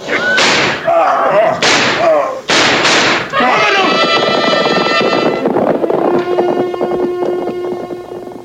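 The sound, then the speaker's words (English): Four loud, sharp gunshot-like bangs go off irregularly over shouting voices, then give way to a steady, sustained ringing drone of tones that gradually fades. “Colonel Borders was lying on the ground unconscious with a bullet wound.”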